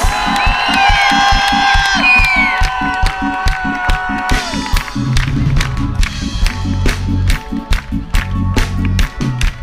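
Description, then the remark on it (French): A loud crowd at an event cheers and whoops with shrill whistles and steady clapping as the host calls for maximum noise for the sound crew and the Virtus organisers; about halfway through, thumping music with a heavy beat kicks in beneath the ongoing noise. “faites un maximum de bruit pour Gamma en son et pour Flo”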